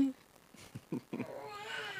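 A small child makes a playful dinosaur roar: a few short vocal bursts, then a drawn-out, strained, high-pitched growl that rises and holds for nearly a second, fairly loud.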